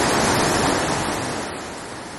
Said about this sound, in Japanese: お、布の滝、 布の滝。